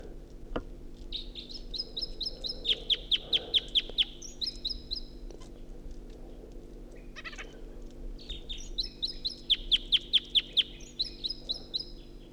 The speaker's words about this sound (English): This is the second wild bird.